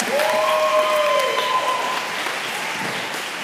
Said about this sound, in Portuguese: E eu queria chamar, a senhora pode subir, por favor. Queria que você desse uma salva de palmas.